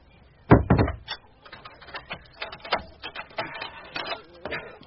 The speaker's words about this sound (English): There. I've locked the door and barred the shutters.